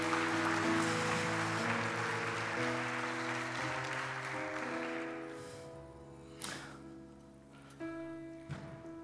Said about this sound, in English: And give these folks a round of applause. Thank you so much, guys.